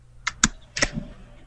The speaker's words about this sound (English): Are you typing in, …? Yes. Okay. Good. You can hear me typing. Gosh, it's thinking about it.